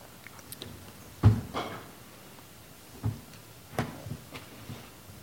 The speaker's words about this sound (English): Doors are now closed.